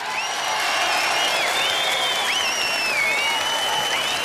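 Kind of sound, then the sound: crowd, studio audience applause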